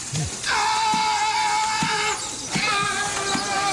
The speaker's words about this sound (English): There's a family that recorded a sea lion, and they noticed that the sea lion's yell sounds just like Tom Hanks.